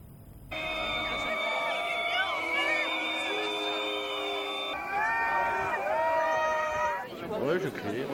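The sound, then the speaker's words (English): A large crowd in eastern France boos French president Emmanuel Macron loudly and steadily, many drawn-out overlapping voices and whistle-like tones holding their pitch, shifting about midway and swelling into rougher jeering at the end. “Meanwhile, the French president Emmanuel Macron has been loudly booed by crowds in eastern France.”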